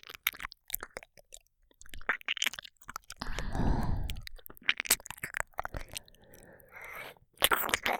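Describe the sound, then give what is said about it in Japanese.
Wet mouth sounds of ear licking: sticky smacks, slurps and clicks in an irregular rhythm, with a breathy, rushing swell in the middle. No talking. “これからご主人様のお耳、ペロペロしてあげます。”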